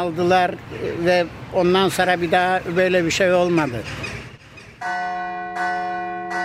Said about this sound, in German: Die Glocken der griechisch-orthodoxen Kirche Aia Fotini in Nea Smyrni bei Athen läuten zum Gottesdienst.